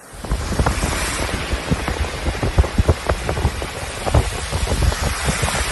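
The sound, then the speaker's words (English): Steady heavy rain pours down in Sydney, Australia, with a dense hiss and scattered splashes and drips popping throughout, along with a rushing wash of water running down from the wreckers and around the corner, carrying sludge from petrol. No voices are heard. “This is running down from the wreckers and around the corner.”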